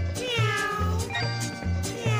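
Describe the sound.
Sliding guitar glissandos whine and bend like a yowling cat, repeating several times over a steady, bouncing bass pulse in a lively, upbeat tune.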